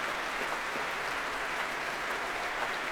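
A large concert-hall crowd applauds and cheers without a break for the chorus members of the BBC Symphony Chorus, Crouch End Festival Chorus and New London Chamber Choir, a dense, steady wash of clapping at an even volume with no individual voices standing out and no one talking.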